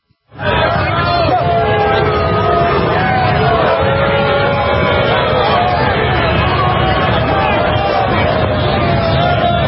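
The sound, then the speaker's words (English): A crowd of about 100 people at a championship game boos loudly at Trump's motorcade, with long, drawn-out jeers layered over a constant roar of voices and chatter. The noise starts abruptly and holds steady for the whole stretch. “Looks like about 100 people booing.”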